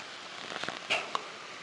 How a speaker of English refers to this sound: I'm not sure if y'all can hear the rain. It's raining outside, got the windows open.